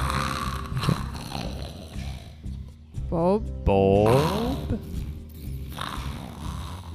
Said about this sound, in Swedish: Nästan som en snarkning, fast lite ovanligt gurgligt.